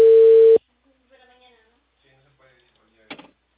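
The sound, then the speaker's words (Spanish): A loud, steady telephone busy tone sounds for about half a second after a call drops from interference, then cuts off, leaving faint voices and a short clattering knock near the end. “Hubo interferencia. Adelante, joven. Sí, se cortó la llamada.”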